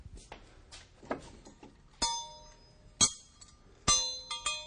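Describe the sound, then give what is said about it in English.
A few softer clinks give way to three bright school bell strikes in a small schoolroom set up to represent a schoolroom in the valley, each ringing out with sustained metallic tones that slowly fade. There is no talking. “But anyway, there's some school bells.”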